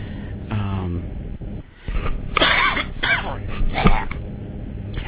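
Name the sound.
hacking cough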